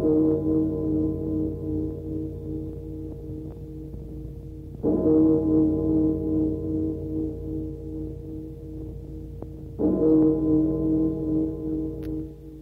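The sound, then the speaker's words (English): A deep bell tolls slowly for the death of Lady Madeline, three heavy strokes about five seconds apart, each one ringing on in a long, humming sustain that overlaps the next. No one speaks. “What does that bell mean, Roderick?”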